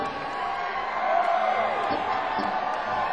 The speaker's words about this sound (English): Don't let that stuff stay inside you. Let it out. Let all that cheering stuff out. Absolutely. Turns into colic if you hold it in.